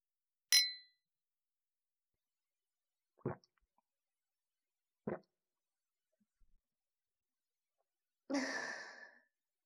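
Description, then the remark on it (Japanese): A single bright, ringing clink of two wine glasses touching in a toast, followed by two soft, dull knocks a few seconds apart and a breathy exhale near the end; no one speaks. “はい、乾杯。”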